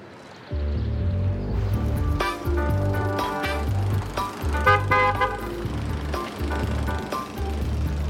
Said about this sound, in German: war da nicht gerade unser Auto?